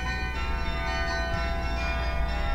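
Church bells of the ancient Martini Tower in Groningen chime a tune, their ringing tones overlapping and sustained over a steady background hum, with no voices.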